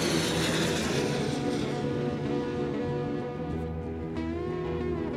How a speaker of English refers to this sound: So here comes another one. But this one's a small plane, so it's a lot higher.